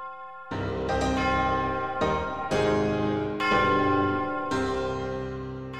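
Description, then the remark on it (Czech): A large church bell rings out in a steady sequence of heavy strikes, each one blooming into a rich, ringing hum that overlaps the next, loud with no voices. “Zvonění není úplně banální věc. Chce to určitě u toho velkého zvonu mít v rukách zkušenost.”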